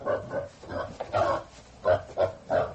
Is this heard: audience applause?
no